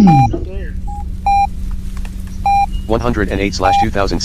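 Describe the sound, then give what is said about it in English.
Several short, clear electronic keypad beeps from a phone sound at irregular intervals over a steady low hum, with a voice talking near the end as the last beep plays. “How do you like that little sound I have on my Parking phone?”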